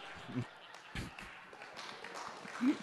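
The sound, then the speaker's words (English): A small crowd of about 30 people breaks into brief applause, a thin patter of scattered claps with a few voices mixed in, moderately loud and fading unevenly over a few seconds. “Wow, an applause break from 30 people.”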